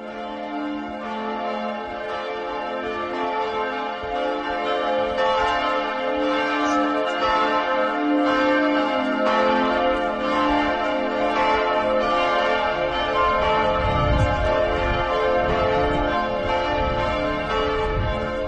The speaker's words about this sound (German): Ja, da hört man im Hintergrund so ein bisschen die Glocken der Frauenkirche